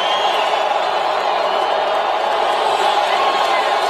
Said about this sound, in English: There's a mixture of chants going on. Four more years, USA. You can hear the drum corps.